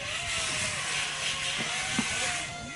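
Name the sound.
car door being opened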